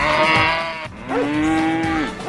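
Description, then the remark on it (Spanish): Two loud, drawn-out cow moos, the first rough and wavering, the second a steadier low bellow that rises and falls in pitch, with no talking. “¿Ustedes sabían que las vacas escuchan la radio?”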